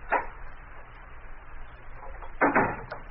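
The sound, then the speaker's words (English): Margot Lane unlocks the door to her apartment: a short metallic rattle, a quiet pause, then a louder, longer clatter of the latch over a steady low hum. No one speaks. “Now, shortly afterward, Margot Lane is unlocking the door to her apartment.”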